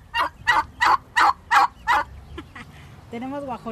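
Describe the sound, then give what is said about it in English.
A burst of loud turkey gobbles from turkeys a family raises along with chickens and ducks, six rapid, evenly spaced rattling calls, fading into quieter clucks before a person starts talking at the end. “During their months of confinement, the family started a garden and began raising turkeys, chickens, and ducks.”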